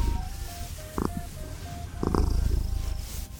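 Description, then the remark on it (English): Cory the Cat purrs steadily throughout, a low rumbling rhythm, with faint beeping tones and a couple of brief rustling bursts layered on top. “And a number of more fuzzy cuties, like Cory the Cat.”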